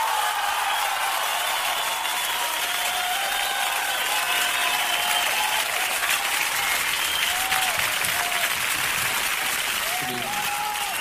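Sustained applause from a crowd fills the whole stretch, dense and steady at a constant level, with a few faint cheers or whistles rising above the clapping.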